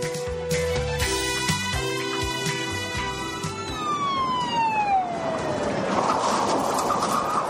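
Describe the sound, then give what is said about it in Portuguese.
A SAMU ambulance siren wails steadily and loudly, then its pitch slides down as it winds off, leaving a broad rumbling, hissing noise behind. No one speaks. “Vamos entrar na ambulância, vamos.”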